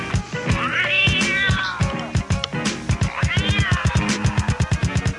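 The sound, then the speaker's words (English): Two drawn-out cat meows, each rising then falling, sound clearly over a steady, rapid rhythmic thumping beat that pulses throughout. “Kill the cat. Fucking cat. Kill that cat.”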